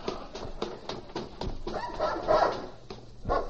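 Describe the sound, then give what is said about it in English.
A dog barks in short, sharp bursts mixed with higher whimpering yelps, the sounds coming irregularly over a few seconds with no talking. “We gotta get rid of the dog after all.”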